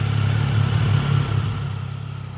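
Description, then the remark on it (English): A steady, low engine rumble idles and churns continuously for a couple of seconds, like street traffic with a motor running, on a commercial strip in Portland, Oregon, with no voices. “To see this process in action, I headed to a commercial strip here in Portland, Oregon.”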